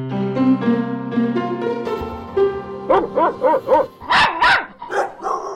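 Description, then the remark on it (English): Dogs at the 140th annual Westminster Dog Show at Madison Square Garden in New York City: a long, drawn-out whine gives way to a rapid run of sharp dog barks, several in quick succession, with a couple of higher yips near the end and no talking. “The 140th annual Westminster Dog Show wrapped up last night at Madison Square Garden right here in New York City.”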